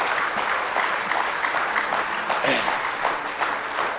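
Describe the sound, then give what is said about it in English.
An audience claps in praise of the Lord during a morning worship service, a dense, steady wash of many hands applauding together for several seconds, fairly loud, with faint voices mixed into the clapping. “Give the Lord one more good hand clap of praise this morning.”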